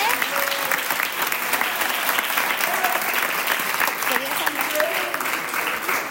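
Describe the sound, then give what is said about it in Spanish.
Sustained applause from an audience fills the room, a dense, steady patter of many hands clapping at once for several seconds, with a few faint voices mixed in. “Muy bien, un aplauso, ¿eh?”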